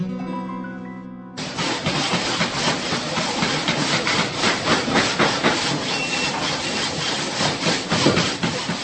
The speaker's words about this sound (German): So hört sich der Wettbewerb der Zimmermannsschüler an der Handwerksmittelschule im ostböhmischen Jaromir an. Sägen, hämmern, feilen, dazu schnelle Striche mit dem Bleistift, um die Stellen für die Schnitte zu kennzeichnen.